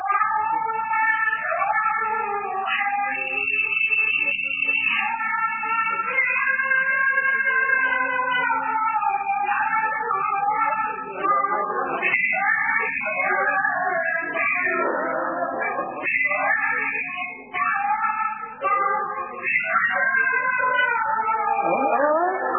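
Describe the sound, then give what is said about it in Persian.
Persian classical music in Segah mode: a solo melodic line of sustained, ornamented notes gliding between pitches over a steady low hum, playing continuously at an even volume with no voices. “نه یه بار دیگه پخش میکنم. ببینید پایش سگاه تموم میشه درسته؟”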